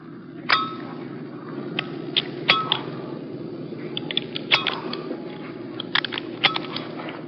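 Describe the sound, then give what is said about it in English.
A jet pilot's parachute harness buckles click and clink shut as he straps in with his crew chief's help, a quick, irregular series of sharp metallic snaps over a steady low background rumble. “If you listen closely, you will hear the actual sound of his parachute gear clicking closed.”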